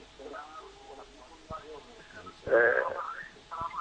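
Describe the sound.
Muffled television sound carries over a narrow, tinny phone line: indistinct voices and program audio at moderate level, swelling louder briefly in the middle before settling back down.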